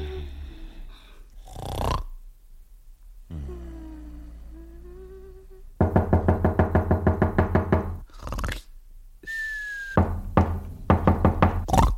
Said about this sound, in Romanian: Iubitule, bate cineva la ușă. Bate cineva la ușă.